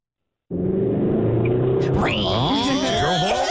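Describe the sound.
A Charger car's engine drones steadily with low road rumble, as if heard from inside the vehicle racing down Highway 400, and a voice starts talking over it partway through.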